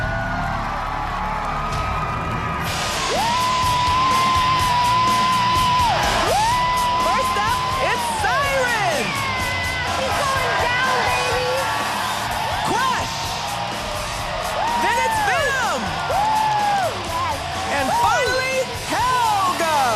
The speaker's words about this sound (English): But it's going to be a lot easier when I get the crowd cheering for me. Yes, crowd support definitely helps.